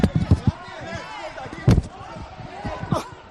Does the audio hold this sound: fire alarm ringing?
no